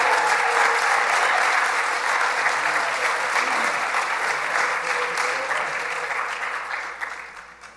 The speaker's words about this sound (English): Let's give him one more big round of applause.